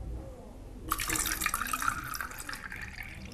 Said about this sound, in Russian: Как ты думаешь, что звучало? Это вода. А что делала вода? Наливалась. Да, наливалась или переливалась, да, посмотри, пожалуйста.